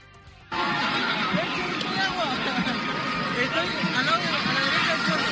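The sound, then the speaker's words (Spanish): A police horse whinnies amid the dense roar of a large crowd of young people in a big park as police disperse them, with overlapping shouts and chatter that cut in suddenly and stay loud and continuous throughout. “Por ese gran parque pasaron drones para identificar a los jóvenes y sancionarles, agentes a caballo, se lanzaron gases lacrimógenos y hasta un camión de agua para disolverlo a los grupos de gente.”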